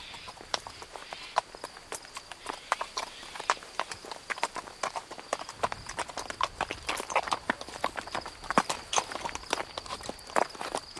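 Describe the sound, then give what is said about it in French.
Horse hooves clip-clop steadily along a path, a brisk walking rhythm of sharp knocks that continues throughout with a faint background hiss. “J'ai tout ce qu'il faut pour votre cheval, mais pour vous, ce sera plus difficile.”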